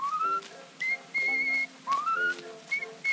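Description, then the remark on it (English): A woman whistles a short, bright tune in clear, rising and sliding phrases, with brief pauses between notes, fairly loud with no talking. “Girls taking a chance when she whistles like this.”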